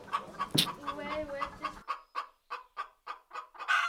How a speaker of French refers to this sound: Maintenant on donne aussi à manger aux poules, parce qu'au jardin Leva, qui est juste à côté de la cantine, il y a 5 poules, et donc en échange de leur donner à manger, on a des œufs.